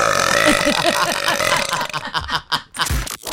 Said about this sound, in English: …, we just heard you burp